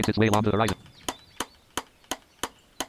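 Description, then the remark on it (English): A person speaks briefly, then a video game hammering effect plays as loose shelter wall pieces are hammered together: sharp, bright knocks repeating at a steady pace, about six or seven evenly spaced strikes, each with a quick decay. “Hammer these together.”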